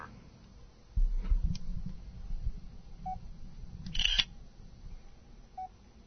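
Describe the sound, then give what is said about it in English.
Short electronic keypad beeps from a Nokia N82 phone sound twice, spaced a couple of seconds apart, as the zero key is pressed to make the KNFB Reader app read a banknote laid on a table, among soft clicks, handling noise and a brief camera-shutter-like burst. No one speaks. “And instead of pressing the down arrow, I'm going to press the zero, which is the command to read currency.”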